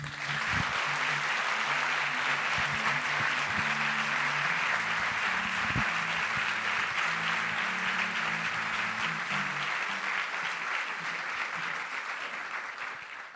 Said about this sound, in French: Merci d'applaudir très fort